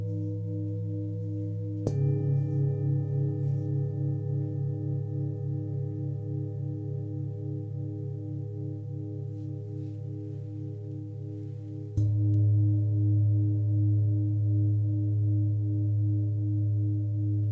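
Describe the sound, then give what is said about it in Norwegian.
Deep, warm singing bowl tones ring out in long sustained layers, pulsing gently as they shimmer. A fresh strike near the start and another later renew the resonant hum, with no voices. “Disse singebollene er avstemt typisk for å ha en helbredende effekt.”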